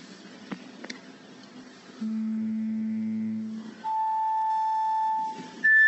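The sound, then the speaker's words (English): Individual pure tones, played in a video showing the uncoiled cochlea and its basilar membrane, sound one after another, each held steadily for over a second and each higher than the last: a low hum, then a mid whistle, then a brighter tone, after faint rustling and clicks. “The cochlea now uncoils, and we look at the basilar membrane, and now see what happens when we play individual tones.”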